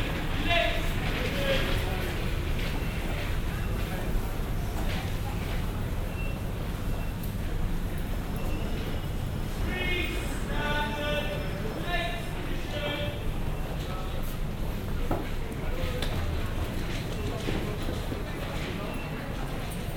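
Walking through the art corridor of the Saint-Pancras metro station toward Saint-Pancras railway station: a steady wash of crowd chatter, footsteps and mechanical rumble, continuous and fairly loud, with brief clattering accents passing through.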